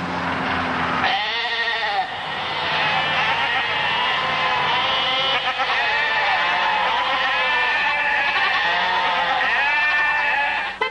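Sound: sheep bleating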